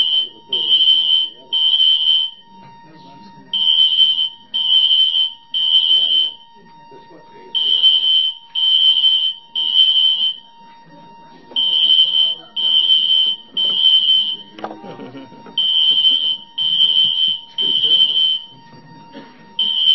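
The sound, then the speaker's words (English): A fire alarm beeps loudly and insistently in repeating sets of three shrill tones, with muffled voices talking underneath throughout. “You don't have a fire alarm.”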